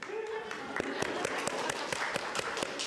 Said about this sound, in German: Die Damen vom Konsum, die drei Damen vom Konsum. Kleinen Applaus vorweg.